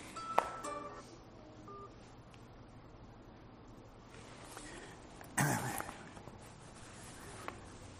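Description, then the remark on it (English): A speaker's mobile phone goes off during a talk, ringing faintly with a few short electronic tones near the start, followed later by a brief throat-clearing burst against a quiet, steady background. “My phone's going off, excuse me.”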